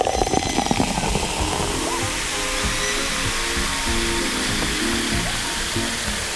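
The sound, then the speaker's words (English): A steady fizzing hiss of carbonated club soda bubbles runs continuously for several seconds, with a faint low humming tone underneath. “Ah, the refreshing bubbles.”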